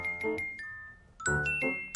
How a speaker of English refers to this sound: But if you see anything from another planet, just ring Hen's bell, okay?